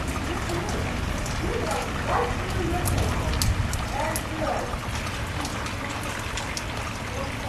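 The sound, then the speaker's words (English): Steady storm rain hisses throughout, with scattered sharp drops pattering. A faint voice murmurs briefly under the downpour midway through. “I'm taking an image of the storm.”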